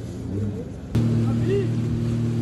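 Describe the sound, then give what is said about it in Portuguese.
Jet ski engines hum steadily as volunteers carry donations through floodwater in Eldorado do Sul, steering around submerged cars, their droning motor tones kicking in with a sudden burst and holding loud, with faint voices mixed in underneath. “Em outra região de Eldorado do Sul, voluntários levam doações em motos aquáticas.”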